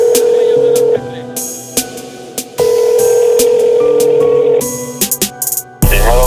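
A phone line rings out as a call is placed: steady electronic tones fill the line, broken by brief clicks and gaps, then a sharp click near the end as the call connects.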